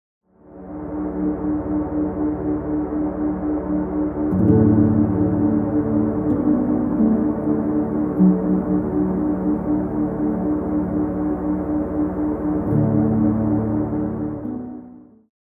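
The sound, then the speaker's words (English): A steady, humming theta wave tone blended with soft ambient music, a warm sustained drone that fades in, thickens with a low swell partway through, and fades out. No voices. “Let's hear theta blended with soft ambient music.”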